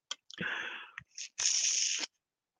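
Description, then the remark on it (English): Someone takes sips of water: two hissy, slurping bursts about half a second each, separated by a short gulp-like click, with no talking. “I'll have another sip of water.”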